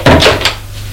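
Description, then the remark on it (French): A door off a dark house corridor is opened, with a quick series of creaky, knocking rattles in the first half second, then fading to a low steady hum. “Elle ouvre une porte.”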